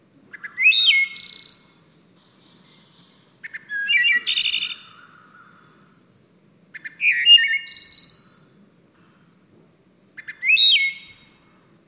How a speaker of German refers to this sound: Dann die Walddrossel, die in Nord- und Mittelamerika vorkommt.